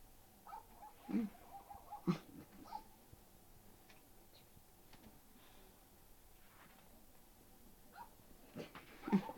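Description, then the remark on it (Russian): A dog barks: a couple of short barks early on, a long quiet stretch, then two more near the end. No one speaks. “Собака лает.”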